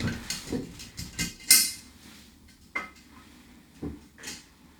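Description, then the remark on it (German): A glass jar holding paper question slips is handled and opened with a few sharp clinks and one bright glassy ring, followed by soft rustling as the slips are mixed and rummaged through to draw one, with scattered taps and knocks. “Ja, jetzt kannst du das Glas mal aufmachen.”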